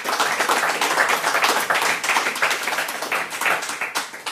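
An audience claps steadily, a dense wash of many hands applauding at once, loud and close, with no voices over it.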